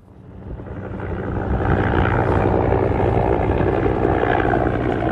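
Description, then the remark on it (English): A helicopter's engine and rotor run steadily as it waits to take a child patient on a medical evacuation flight of about 30 minutes. It is a loud, dense mechanical roar with a throbbing low hum that swells over the first second or two and then holds constant. No voices. “Well, at any moment now, Habiba will arrive here by ambulance and be transferred to the helicopter behind me.”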